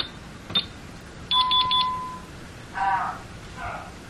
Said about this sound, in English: but you heard the three beeps. That tells you that it's definitely in the arm stay mode.